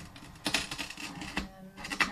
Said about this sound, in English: You heard the sound of this of that little tool scoring the glass, and then what happened when you broke it?